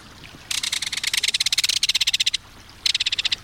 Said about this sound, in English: When not perching, fishing, or building a nesting burrow, the belted kingfisher dashes through the air, warning intruders with its rapid-fire call.